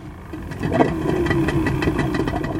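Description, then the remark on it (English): The small engine of a Kazakh fishermen's boat, at a long sandy beach, sputters to life and settles into a steady, rhythmic chugging idle, fairly loud, with no voices. “Kazakh fishermen now have to push their boats through the muck about a quarter mile before it's deep enough to fire up the engine.”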